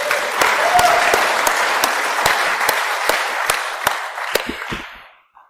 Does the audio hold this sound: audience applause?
yes